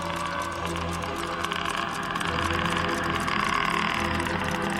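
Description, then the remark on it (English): A car engine hums steadily as the vehicle drives down a dark country road in the south of England late at night, a continuous, even drone with low rumbling tones and road noise, unchanging throughout. “Frank was driving down a dark country road in the south of England”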